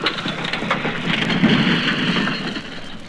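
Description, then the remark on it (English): A tram, pulled by a tractor on a rope, topples over with a sustained, rumbling crash, a dense roar of clattering debris that swells in the middle and stays loud throughout, with no voices. “The tram fell over in a great cloud of black dust”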